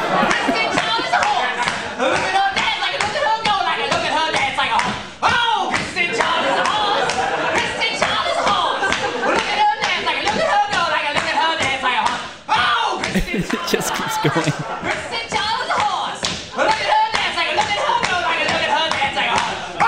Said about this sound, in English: … does this maniacal singing and clapping. And Kristen is doing this horsey dance.